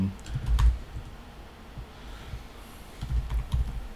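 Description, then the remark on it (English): Typing on a computer keyboard, irregular bursts of soft key clicks with a couple of heavier taps, clustered at the start and again near the end, with no voices. “I'm typing in here.”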